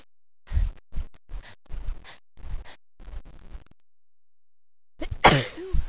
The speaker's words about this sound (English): It never made me sneeze before. Maybe it's something else. I'm not sure, but tickle is not going away.